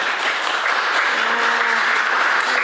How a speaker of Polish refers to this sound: Myślę, że należą się dla niej duże brawa, ponieważ reprezentuje nasz urząd.